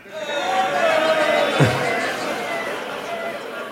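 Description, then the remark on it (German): An audience makes a dense, chaotic wash of vocal noises imitating a construction site, with hums, rumbles and a sharp thud midway, sustained loudly throughout. “Alle mal so Baustellengeräusche, bitte.”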